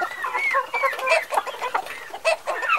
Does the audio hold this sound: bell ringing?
no